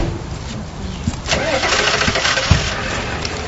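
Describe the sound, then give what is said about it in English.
A truck engine cranks briefly and catches, settling into a steady, rumbling idle with a few knocks and clunks along the way; the truck is loaded with bins of harvested Swiss chard and green beans. “They carry the bins of chard and beans to Nash's truck.”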